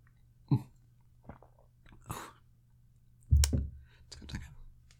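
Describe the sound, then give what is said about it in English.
Quiet sipping of a watermelon-flavoured drink from a glass: a few soft slurps and wet mouth clicks, followed by a louder gulp-like swallow and some faint clinks, with no talking. “So, why don't we take a sip and find out if this works?”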